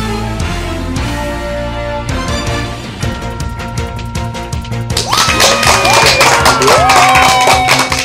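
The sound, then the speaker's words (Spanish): Applause and cheering over steady music: scattered claps grow into loud, dense clapping, joined by whistles and crowd shouts in the last few seconds. No one speaks. “Con esa energía positiva y esos aplausos damos inicio a este episodio número 187 del programa del podcast Te Invito a un Café.”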